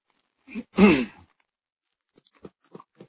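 Bible pages rustle as they are turned, a handful of soft, crisp papery crackles spaced out near the end, preceded by a short voiced breath or murmur.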